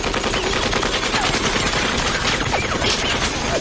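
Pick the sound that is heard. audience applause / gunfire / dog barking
gunfire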